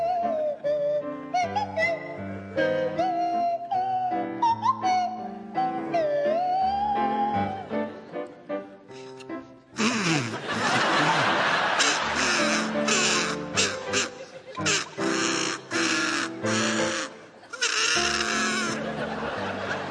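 Joe Brand on the kazoo and Tony Hawks on the swanee whistle play a tune together. Sliding whistle notes run over a melody at first, then a louder, raspy, buzzing stretch fills the second half.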